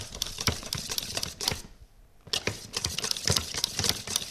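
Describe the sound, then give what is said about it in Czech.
Quick, rhythmic clicking and scraping as flour and salt are stirred all at once into a whipped batter in a bowl, fairly loud, with a brief pause midway before the brisk mixing resumes. “Všechno to tam hodíme rovnou, než napočítáme do 5, chceme mít zamícháno.”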